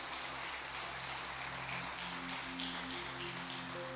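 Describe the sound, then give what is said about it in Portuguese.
A crowd claps steadily in a round of applause to Jesus, a dense patter of many hands, while sustained keyboard notes hum underneath throughout. “Se você crer, dá uma salva de palmas a Jesus.”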